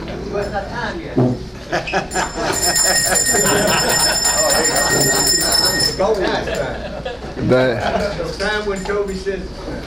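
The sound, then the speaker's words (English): A bright, sustained bell rings steadily for several seconds, fairly loud and continuous, over a background of men talking and general room noise. “I got my man's not on the bell yet.”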